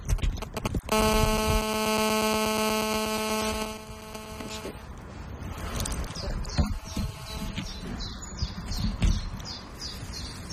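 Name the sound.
mobile phone ringing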